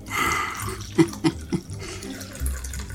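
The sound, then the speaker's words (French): A martini, without ice, is poured into a glass with a steady, bright trickling for under a second, followed by three sharp knocks or clinks and low handling rumble. “Et puis, un petit martini.”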